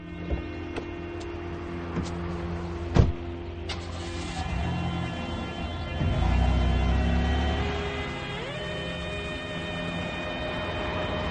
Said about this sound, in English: A doorman opens the passenger door of Carter's car, and Carter tips him. Carter gets into the car and drives away from the building.